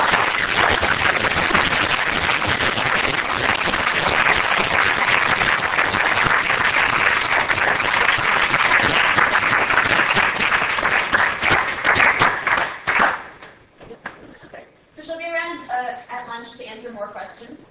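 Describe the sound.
A crowd bursts into loud, dense applause that holds steady for about thirteen seconds before tapering off quickly, after which a single voice begins speaking.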